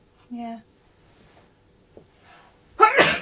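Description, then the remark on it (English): A single loud sneeze bursts out at the very end, following a brief voiced sound near the start and a few seconds of quiet, faint background noise. “Bless you. Excuse me, thank you, darling.”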